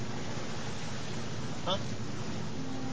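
A motorboat engine drones steadily on the river, its low rumble mixed with rushing water and wind noise, with a brief higher chirp partway through.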